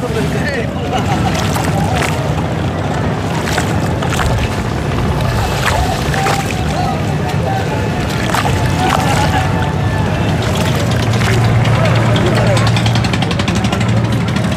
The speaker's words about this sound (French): On va entrer vers le port, non? Ben, on est dans le port, au bord de la rivière.